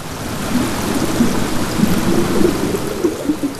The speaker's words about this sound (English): You hear the Colorado River.